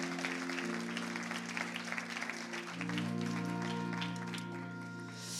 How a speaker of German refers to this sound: Habt ihr einen Applaus für unsere Band? Vielen, vielen Dank.